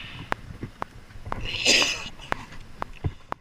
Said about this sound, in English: And when you sneezed, it was the same sneeze you made when you were a little kid.